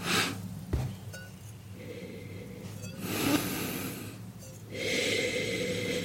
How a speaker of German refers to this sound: Ich rieche mal rein.